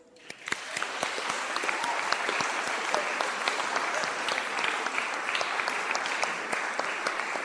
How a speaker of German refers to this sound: Und ich finde, dafür haben wir vorhin schon geübt, so ein bisschen Dankbarkeit auszudrücken, indem wir klatschen. Vielleicht schaffen wir das alle zusammen, einmal unsere Dankbarkeit auszudrücken für die neuen Konfis.